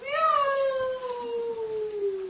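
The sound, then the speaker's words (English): A cat lets out one long, drawn-out meow that starts high and slowly slides downward in pitch, fairly loud with no voices around it. “So by his yoga maya energy, a cat came.”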